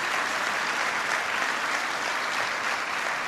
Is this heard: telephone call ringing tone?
no